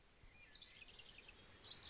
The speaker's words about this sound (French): C'est une saison particulière. On entend les oiseaux chanter, la sève monte dans les arbres, jusqu'au bout des branches.